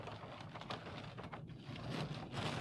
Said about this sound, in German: Ja. Das ist Regen, ja. Das ist echt heftig gerade. Auch die Sicht wird immer geringer gerade.